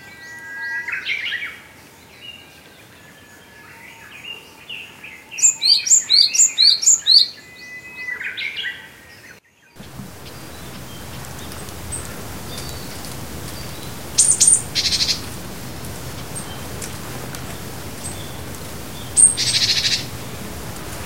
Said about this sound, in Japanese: 警戒鳴き。今のはシジュウカラでした。